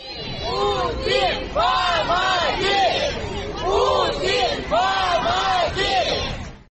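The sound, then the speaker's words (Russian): An angry crowd of several hundred local residents at the city administration in Orsk, Russia, shouts "Putin, help!" together in loud, rhythmic bursts, repeating it about five times with brief breaks between each chant. “Одни кричали «позор» и требовали отставок в руководстве города, а другие записали ролик, на котором хором прокричали «Путин, помоги!».”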